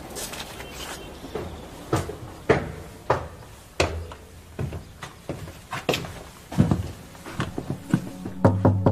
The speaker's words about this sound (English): The door opened at once.